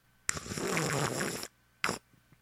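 A person slurps as a demonstration of slurping: a loud, airy slurp lasts about a second, then a short second slurp follows after a brief pause, like someone sucking in soup noisily. No one talks.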